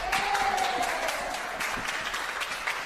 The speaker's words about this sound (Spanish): La primera de ellas, la más llamativa de las reacciones, el aplauso espontáneo, entre comillas, que le ha brindado su equipo a Pedro Sánchez a la entrada de la Moncloa.